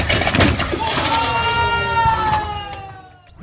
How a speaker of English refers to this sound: Along the way, she went viral for an Instagram video of a failed snatch attempt that sent a 235-pound barbell smashing through a plate glass window. I can't show you the video in a podcast, but I think you'll find the audio really does the trick.